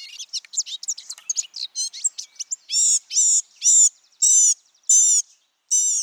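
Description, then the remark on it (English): A male blue-gray gnatcatcher's long, squeaky, rambling song: a rapid jumble of thin high chirps and trills, then a series of six buzzy, harsh notes repeated at steady intervals, clear with no other sounds. “In the course of a male's long, squeaky song, he may sing samples of jays, tanagers, nuthatches, warblers, and many other birds he's heard.”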